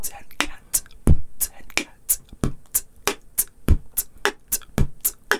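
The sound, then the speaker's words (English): A voice beatboxes the classic 'boots and cats' groove without vocalizing, using only breath and mouth sounds: steady, evenly spaced percussive puffs and sharp hissy clicks alternating in a quick repeating kick-snare pattern, with no voiced tone. “I mean, the classic one is like just saying boots and cats, just except without vocalizing any of the sounds.”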